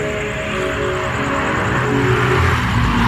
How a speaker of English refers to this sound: That was a car driving by.